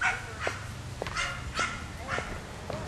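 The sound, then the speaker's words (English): Small dogs bark in a quick series of about five sharp, high yaps at a steady pace, moderately loud over a constant low background hum. “You little rat dogs.”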